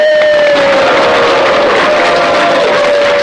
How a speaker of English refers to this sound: Okay. Big round of applause. Go up for it!